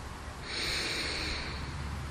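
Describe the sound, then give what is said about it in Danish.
A single long, deep breath drawn in through the nose by a seated person during a guided relaxation exercise, a steady airy hiss lasting nearly two seconds, fairly quiet, with no talking. “Så tager vi en dyb indånding ind igennem næsen.”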